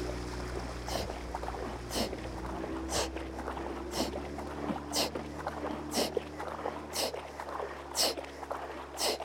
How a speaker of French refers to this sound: Et puis, il y a toujours les coups de pagaie, le souffle des concurrentes.